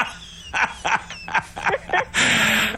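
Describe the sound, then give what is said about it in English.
People imitate dogs with a quick series of short, loud barks and yips, roughly six bursts in under three seconds, ending in a longer, noisy howl-like bark. “We were barking.”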